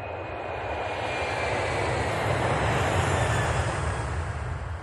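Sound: airplane engines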